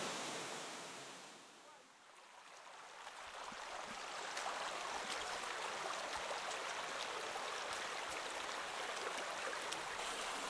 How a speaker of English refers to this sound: We're still on top now, some white limestone, which the water's slowly going along and it's descending down into a turquoise pool at the base. And the turquoise pool looks like it's really quite deep.